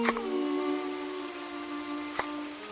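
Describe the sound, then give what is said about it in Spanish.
Steady rain hisses evenly throughout with no wind blowing, mixed with a sustained low tonal drone, while a couple of sharp taps land near the start and again about two seconds in. No one speaks. “Llueve, pero no sopla viento.”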